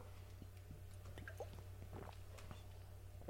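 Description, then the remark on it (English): Quiet gulps of water drunk from a glass bottle, with soft wet swallowing clicks and little glugs scattered over a few seconds above a low steady hum, no talking. “That one gave a beautiful sound as I drank it, by the way.”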